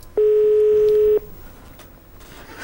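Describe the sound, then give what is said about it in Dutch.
A telephone ringing tone on an outgoing call placed during a radio broadcast: one steady, fairly loud electronic beep lasting about a second, then a quiet, faintly hissing line while the call waits to be answered. No one speaks. “Zou ze opnemen? Ik weet het niet.”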